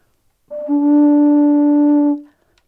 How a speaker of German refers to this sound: Die, also sozusagen, das sind jetzt Pfeifen, die eigentlich sozusagen zusammengehören sollten, die gemacht sind nach so Standardmaßen.